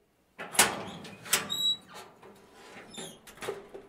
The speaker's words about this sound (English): I think that they're gone. I heard the door close.